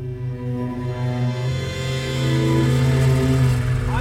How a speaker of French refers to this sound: À la frontière avec l'Irlande du Nord, les Britanniques nous ont fait descendre du camion. Coupez le moteur.